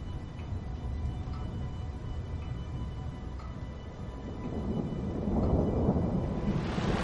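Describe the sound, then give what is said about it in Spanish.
Steady rain pours in a continuous hiss, while a deep rumble of thunder swells and grows louder toward the end. No voices are heard. “Llueve.”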